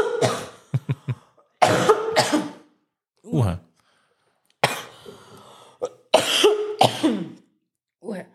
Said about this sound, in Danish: Der er lige en tus i halsen. Ja. Det er da, når man er ved at blive kvalt i sin egen luft.